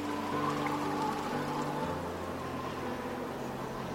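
Rain patters steadily onto the water of a stream in a dense, continuous hiss of tiny splashes, holding an even level throughout with a faint low hum underneath.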